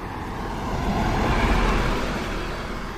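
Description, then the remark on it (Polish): A car passes by on a minor road, its engine and tire noise swelling to a broad rumble midway and then fading slightly, with no voices present. “Pod kołami takich samochodów właśnie giną żaby.”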